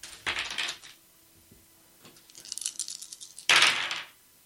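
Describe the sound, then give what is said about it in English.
Five dice rattle and clatter onto a hard surface in a few quick bursts: a short shake, a scattered tumbling roll, then a loud final clatter, with no talking. “Okay, so I roll 5 dice?”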